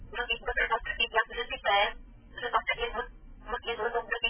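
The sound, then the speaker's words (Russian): A phone plays a short preview of a signal setting, vibration then melody: a low buzzing vibration followed by a tinny, narrow-band melody in repeated bursts with brief pauses, moderately loud. “Вибрация, затем мелодия.”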